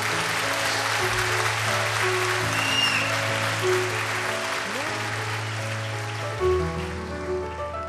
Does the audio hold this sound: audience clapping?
yes